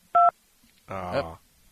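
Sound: telephone beep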